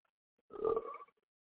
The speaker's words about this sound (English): You ain't got a burp in my face either. Don't worry about me burping. If I burp, I meant to burp.